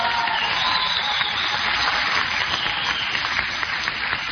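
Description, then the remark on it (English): Workers at Airlight Plastics applaud steadily: a dense, crackling wash of many hands clapping at once, holding an even loudness throughout with no voices over it. “Now, the people applauding him are among those people are the people who have had a day's pay taken from them”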